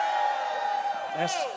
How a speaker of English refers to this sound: That sounded like you're from the University of Georgia. I need some Alabama shouts right now.